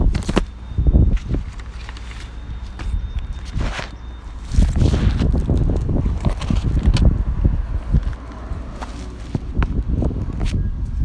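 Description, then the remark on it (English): Gusty wind rumbles and roars across the microphone in uneven surges, with footsteps and rustling mixed in throughout; no one speaks. “Okay, it's getting windy.”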